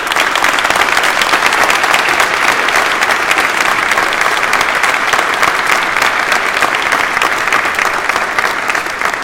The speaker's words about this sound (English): My beloved, clap your hands together.